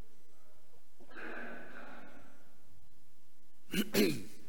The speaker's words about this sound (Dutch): Ik moet eventjes kuchen. Dus als je de microfoon even